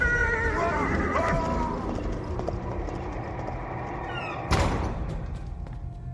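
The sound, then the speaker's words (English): A rider's black stallion screams with a shrill, wavering whinny as it rears up and falls back, over a dense rumble of hooves and commotion, followed later by a sudden sharp burst of noise as the clatter carries on. “But as Will instinctively threw up one arm in self-defense, the black stallion screamed, fell back, and rider and horse disappeared into the dark.”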